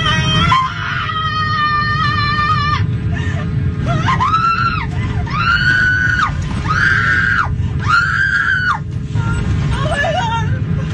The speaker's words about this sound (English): And then that woman is on there screaming her goddamn head off.